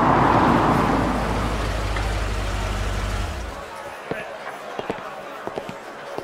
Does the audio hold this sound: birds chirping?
no